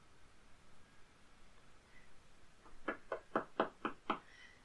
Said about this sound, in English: Oh, they seem pretty insistent. I think you might need to open the door. Of course I heard that knock. It was so loud.